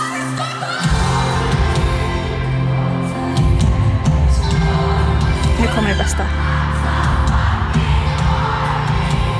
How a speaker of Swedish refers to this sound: Alltså så, jag tycker att det är så uppfriskande att vara så här, på en popkonsert och bara alla bara skriker I'm so fucking horny. Alltså det är bara, ja, någonting. Jag älskar det.